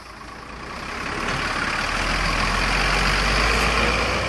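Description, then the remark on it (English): Heavy coaches rumbling along a busy road in Ballarat, Victoria, delivering children to a specialist school at drop-off time, their low engine drone swelling louder over steady traffic noise, with no voices. “It's school drop-off time, and on a busy road in the Victorian city of Ballarat, coaches are delivering children to the specialist school.”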